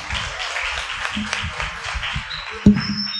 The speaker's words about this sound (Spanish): Adelante, chicos, y recibámoslos con un fuerte aplauso una vez más.